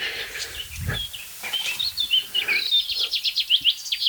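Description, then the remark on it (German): A pipit sings a finch-like song of bright, high chirps and trills, turning into a quick rhythmic series of repeated notes toward the end, with no talking over it. “Die Piper klingt finkig.”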